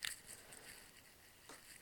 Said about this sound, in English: Babe, look, it's raining. Come on, it's the weekend. It's raining, it's cold, it's wet, and it's the weekend.